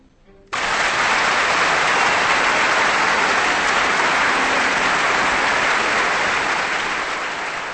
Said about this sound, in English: Enthusiastic applause for the Vienna Philharmonic and conductor Maris Janssens bringing us The Emperor Waltz by Johann Strauss Jr. on Kansas Public Radio.